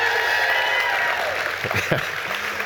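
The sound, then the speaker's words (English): An audience at the Well Community Church applauds in a steady, dense wash of clapping that holds at an even level throughout, with a few voices faintly mixed in beneath it. “If you are a guest here with us, applause is not normal.”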